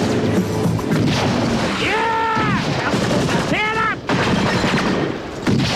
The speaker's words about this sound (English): Hit the light and siren and you give hot pursuit while firing out the window of the squad car.